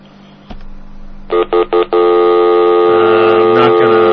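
A click over low hum, then three quick electronic touch-tone phone keypad beeps in a row as a number is dialed to make a call, followed by a steady, loud sustained telephone tone that holds to the end.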